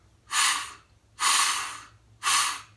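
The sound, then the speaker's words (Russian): A person imitates a frightened deer's snort with three forceful, hissing bursts of breath, each about half a second long and evenly spaced, with no talking in between. “Но, тем не менее, когда олень испуганный, он делает как-то вот примерно так.”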